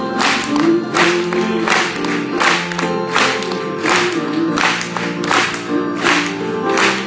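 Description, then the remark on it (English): An audience claps together in praise to the Lord in a steady, rhythmic beat, the sharp bursts repeating evenly over loud ongoing music with sustained tones and no clear talking. “Let's clap it to Him.”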